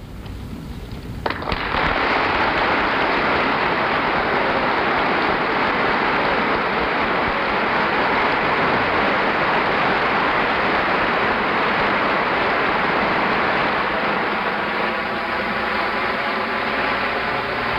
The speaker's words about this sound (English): Congress of the United States, assembled in joint session, is on its feet to applaud the President of the United States.